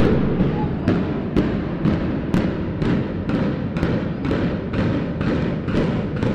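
A building implosion blast in the calm morning, as the remaining shell of a university building is brought down: a steady sequence of about a dozen deep, booming thuds, evenly spaced roughly half a second apart, each cracking sharply over a continuous heavy low rumble.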